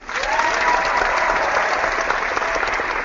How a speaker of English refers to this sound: It's almost over. Yes! Wait, we gotta cheer.